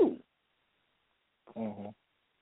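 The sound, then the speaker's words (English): A single short cat meow rises and wavers for about half a second after a brief soft sound and a pause, with quiet in between and no talking. “right, Doja? Meow, meow, right? See?”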